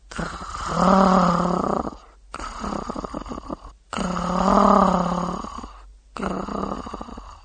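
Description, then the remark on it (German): A girl's voice imitates a dog's growl, growling at a dog as slowly and rhythmically as she can: slow, rhythmic, drawn-out rumbling pulses, about four in a row, fairly loud, separated by brief pauses, with no talking. “Sie versuchte möglichst langsam und rhythmisch zu knurren.”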